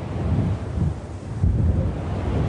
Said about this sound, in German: Der Wind ist wieder stärker geworden und es wird heute wohl nur noch 1 Fähre Richtung Festland starten.